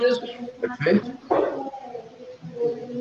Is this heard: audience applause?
no